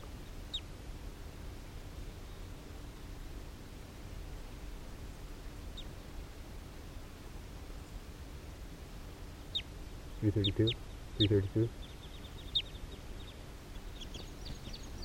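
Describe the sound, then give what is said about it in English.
Wild birds, males and females, coming down to the ground near 3:32 give scattered short, high chirps over a steady background hiss, with a pair of louder, lower, raspy calls breaking in near the end. No talking is heard. “Some of the wild birds are coming down here near 3:32.”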